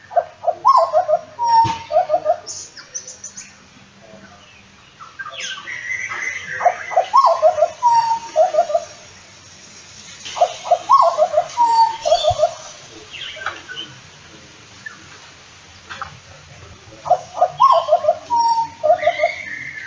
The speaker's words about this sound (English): Glenn White recorded the black butcher bird on Cape York, and there's also a black-backed butcher bird in the background. And Glenn writes, I hope you agree with my father and I that the black butcher bird is the baritone of all butcher birds.